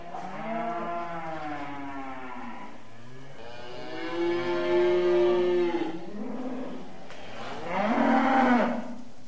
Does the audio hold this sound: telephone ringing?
no